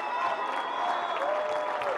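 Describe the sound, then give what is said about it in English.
A large crowd cheers and screams loudly and continuously for their moms, with applause mixed into the steady roar of many voices for the whole stretch. “And I got some killer post-production content of an entire crowd screaming for me.”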